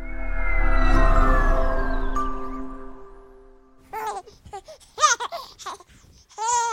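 A baby with only two teeth babbles in short, high, bouncy coos and squeals near the end, following a few seconds of a steady humming tone with low rumble.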